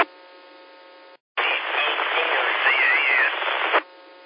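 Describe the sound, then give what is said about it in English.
A burst of loud, hissing static on a ham radio signal during check-ins to the Blue Ridge 2-meter net fills a narrow band, with a faint warbling tone inside it, framed by a steady humming carrier before and after a brief silence. “A lot of static in your signal, but I got KO4.”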